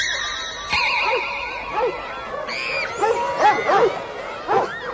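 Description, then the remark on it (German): Several small dogs bark and yip in quick, overlapping bursts, loud, with a few higher whining yelps mixed among the barks. “Ene, mene, mürden. Hunde sind's statt Hürden.”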